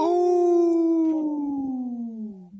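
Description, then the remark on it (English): A single long wolf howl, steady and loud, holding a clear tone that slowly slides downward in pitch over a couple of seconds, with no talking underneath. “We know the Lieutenant Governor is part of the wolf clan, so we like howling here on Native Roots Radio”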